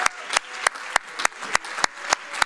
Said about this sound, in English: Praise the Lord. Let's give the Lord a good hand of applause. Praise the Lord. Let's really do it good for the Master.